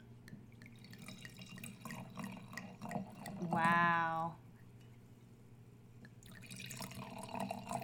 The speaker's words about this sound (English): So now, can we enjoy a bottle of this Scarbola family wine? Of course. Let's start today's tasting. I'm going to pour a couple of glasses, and as I pour the wine, you know, take a look at this copper color.